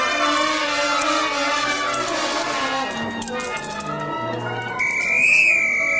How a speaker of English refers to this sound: Tommy blows the whistle and beats the drum.